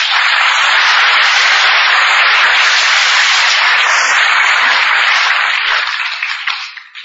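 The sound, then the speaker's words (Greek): Sustained applause from a large crowd, a dense, steady wash of clapping at full loudness for several seconds before it begins to thin and fade at the end. “Δεν ακούστε τα χειροκροτήματα, ακούστε να σας πω ένα πράγμα, να σας ψυχολογηθώ.”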